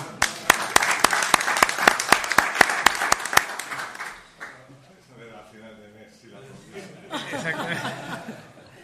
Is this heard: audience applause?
yes